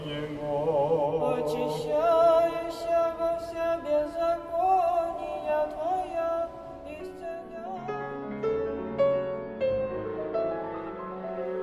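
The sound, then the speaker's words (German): A choir in Russia sings a slow Russian Orthodox church hymn, sustained voices blending in close harmony with gentle vibrato, steady and fairly loud throughout with no talking. “Kirchenlieder ertönen.”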